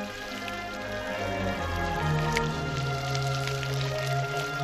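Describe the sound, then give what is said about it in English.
Water runs steadily from a standpipe tap, splashing and spattering as a man washes his hair and rinses himself off beneath it, a continuous wet pour with a low hum in the background. “As the landlord runs after her, he passes a man washing his hair under a standpipe. The man pulls his trousers down and rinses himself off.”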